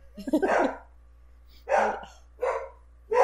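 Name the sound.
dog barking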